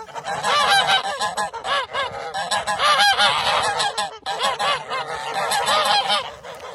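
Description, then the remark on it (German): A flock of geese cackles and honks loudly and continuously, many overlapping calls forming a dense, noisy chorus with no pauses. “Und es gibt auch ganz, ganz wichtig, die Schnattergänse. Und ja, die können ganz schön laut sein.”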